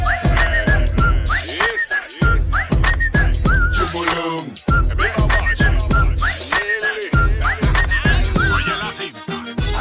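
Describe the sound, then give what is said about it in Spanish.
A person whistles a lively, repeating melody in short phrases over a loud, pounding plena (Panamanian reggaeton) dance beat with heavy bass, the whistle riding clearly on top of the music throughout. “Ahora silba.”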